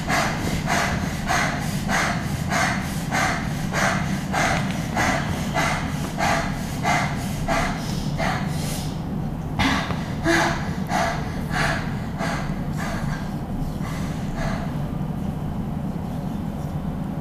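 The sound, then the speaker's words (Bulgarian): A person doing a powerful breathing exercise: forceful, rapid breathing repeats in a steady quick rhythm of sharp puffs, loud, about two per second, with a brief pause partway through before resuming. “Дишай, дишай, дишай още 2 минутки. Мощно дишане.”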